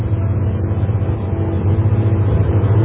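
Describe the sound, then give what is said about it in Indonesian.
Steady low engine rumble of a pickup truck on the move, heard from the open back where five people sit, riding to an old bridge, with constant road and wind noise and no talking. “Kami berlima duduk di belakang mobil pickup ini.”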